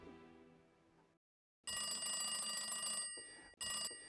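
A party-line telephone bell rings clearly and loudly in a long-short pattern: a fading ring, a pause, then a sustained ring followed by a brief one, with no voices.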